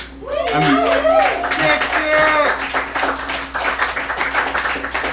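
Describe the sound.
Audience applause: dense, steady clapping fills the whole stretch at a fairly loud level, with a few high whooping or cheering voices rising over it near the start and a low steady hum underneath.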